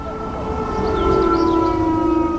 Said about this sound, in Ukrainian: Страйк проти кровопролиття та сепаратизму розпочався о півдні. На багатьох підприємствах міста пролунала сирена.